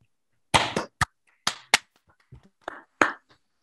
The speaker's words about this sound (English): So let's all unmute to give him a round of applause for his great talk.